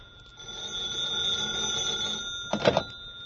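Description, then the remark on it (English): A telephone rings with a steady, bright electronic trill lasting a few seconds, fairly loud, followed by a brief clatter as the receiver is picked up. “Just as I was getting set to drop off, the phone rang.”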